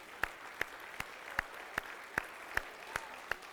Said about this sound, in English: Since y'all been seated a while, let's stand and clap for them, and then that'll loosen you up a little bit too.